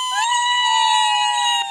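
A single loud, high-pitched excited scream held steadily for under two seconds, piercing and close, with no talking around it.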